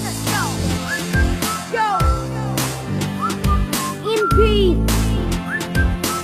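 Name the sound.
human whistling a tune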